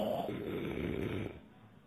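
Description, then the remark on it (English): A man makes a single drawn-out, rattling snore with his voice, fairly loud, lasting about a second before cutting off into quiet. “And suddenly, I woke myself up, hearing myself snoring.”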